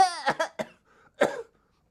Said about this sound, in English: Oh, thank you for coughing for me.